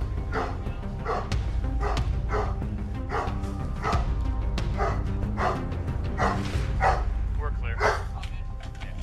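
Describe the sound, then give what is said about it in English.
An owner's agitated dog barks loudly in an apartment as police officers search it, a rapid string of sharp barks repeating steadily for several seconds over a busy background. “The officers searched the apartment for the suspect, but only found the owner's agitated dog barking loudly.”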